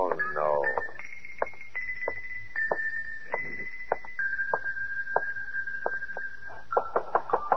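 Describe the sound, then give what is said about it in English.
Sharp knocks on a door, repeated in uneven bursts throughout, sounding over a steady high-pitched tone, with a brief vocal sound at the start. “Come on, open up, will you?”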